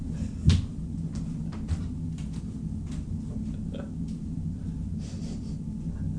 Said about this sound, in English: Knock at the door.